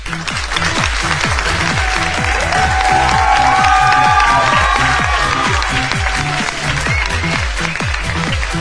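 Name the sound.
loud applause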